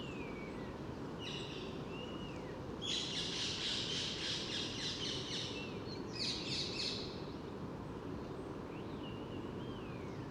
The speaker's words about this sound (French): En arrière-plan, il y a des perruches à collier qui malheureusement prennent les cavités des pigeons colombins, donc c'est un peu un problème de cavité pour nicher.